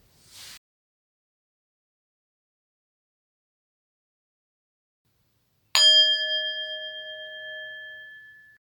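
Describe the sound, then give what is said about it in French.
A single meditation bell is struck once after a long silence at the close of a guided meditation practice, its clear metallic tone ringing out and slowly fading over a few seconds. A brief soft rustle comes earlier. “Je vous propose ensuite de vous tourner peut-être vers votre écran, vers votre téléphone, peut-être vers une fenêtre, pour saluer aussi au prochain son de cloche les amis de pratique et toutes les personnes qui ont pratiqué cette méditation avec vous”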